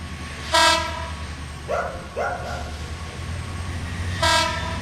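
A train rumbles steadily as it starts moving, with two loud horn blasts, one early and one near the end, and a couple of shorter whistle-like honks between them; passengers have just boarded with heavy suitcases.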